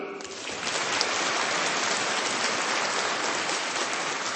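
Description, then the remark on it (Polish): Dense, steady applause from a crowd for a schola (choir): a continuous wash of many hands clapping at once, loud and even for several seconds, with no voices heard over it. “Brawa dla naszej dzielnej scholi, żeby nam pięknie śpiewali.”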